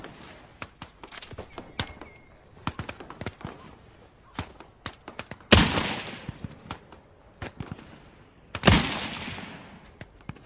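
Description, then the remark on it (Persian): Gunfire crackles across a military firing range where soldiers are shooting: a steady scatter of sharp shots in irregular bursts, broken by two much louder blasts that ring out and echo away. “میدان تیر، وضعیت شلیک.”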